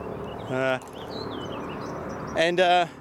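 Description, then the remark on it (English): Gray catbird calls in a park, four or five catbirds present: a short, nasal, mewing cry followed a couple of seconds later by a longer, rougher one, with faint high chirps scattered in the background between them. “There's another park not far from this area where there's, here you go, more of the gray catbirds. It's like four or five of them here.”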